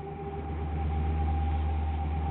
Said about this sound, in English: The bus startled me as it pulled out of the station and it woke me up.